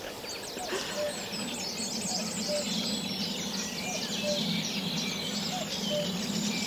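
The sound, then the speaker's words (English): A common cuckoo calls repeatedly on a nature reserve, its soft two-note cries recurring every couple of seconds beneath a dense, busy chorus of chirping songbirds and a steady outdoor hum. “And you don't need to tell me what that little cuckoo noise is.”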